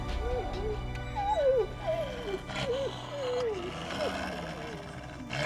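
A pack of wolves that has cornered its smallest, sickly member whimpers in a series of high, wavering whines over a low, rough growling undertone, with tearing sounds, the cries rising and falling repeatedly, fairly loud, on a foggy, frosty moonlit night.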